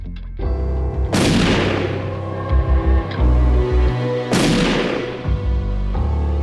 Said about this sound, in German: In der Nacht hört Jürgen Mertens zwei Schüsse.